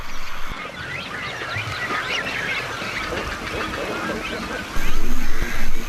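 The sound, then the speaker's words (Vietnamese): A dense, noisy colony of birds calls continuously as mother birds fly back to the nest in small groups after hunting in the late afternoon, with chicks waiting; many overlapping squawks and honks layered together, growing louder in the final second. “Cuối cùng, chim mẹ đã về.”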